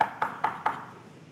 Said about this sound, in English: They said, hey, sirs, Peter's at the door. You know what they said? I mean, that's how much trust they trusted God. That's not Peter, that's his ghost. Well, the ghost is still knocking.